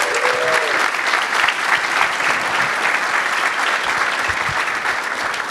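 An audience applauds steadily, a dense, even wash of many hands clapping at a fairly loud level that holds throughout without fading, with no speech over it.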